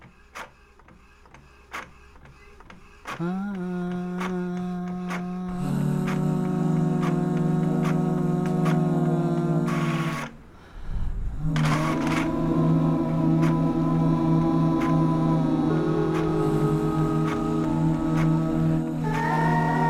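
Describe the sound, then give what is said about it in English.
A printer runs: a few clicks, then a loud, steady whirring motor whine with tonal harmonics, a brief drop near the middle, and the mechanism humming back up until the end. “Let's see if I can harmonize with anything else. Let's go. This is my printer.”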